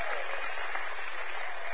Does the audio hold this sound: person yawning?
no